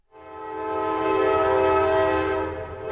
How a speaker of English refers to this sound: The sights and sound of industry still fill East Chicago. Trains pass by City Hall every few minutes, some carrying coal for local steel mills whose furnaces continue to burn brightly along the southern shores of Lake Michigan.